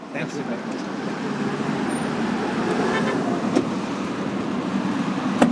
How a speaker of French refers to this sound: On va maintenant faire un tour en voiture